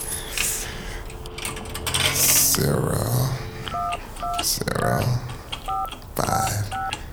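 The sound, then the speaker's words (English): A quick run of short, evenly spaced telephone keypad tones beeps out as a number is dialed to make a phone call, sounding clear over a voice and some background clatter. “I gotta make this important phone call, right?”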